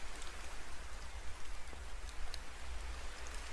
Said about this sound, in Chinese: 世间万物离开了水都无法生存，这场雨 或许是某人的祈祷灵验之后的结果呢。